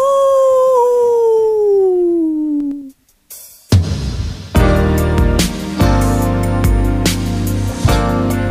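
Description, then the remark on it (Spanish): A long, drawn-out werewolf howl glides slowly downward in pitch for about three seconds, then breaks off, and after a short pause loud, full-band music kicks in. “El hombre lobo. ¡Aú!”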